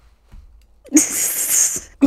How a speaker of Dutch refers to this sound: Je hebt zelfs een kuchje overgenomen. Zo, in het begin.